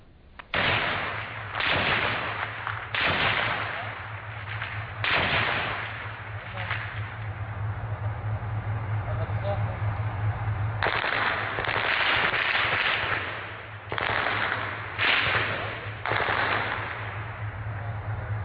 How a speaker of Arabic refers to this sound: وستروي لنا هذه الصورة البسيطة لإطلاق النار في سراقب، جزءا بسيط من هذه الدبابات التي لم تقف يوما عن القصف.